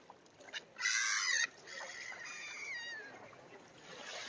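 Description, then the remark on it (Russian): A loud burst of wings flapping as hens fly to a person, followed by a series of short, squeaky bird calls with a faint murmur of background noise. “Эти уже курочки ко мне прилетели.”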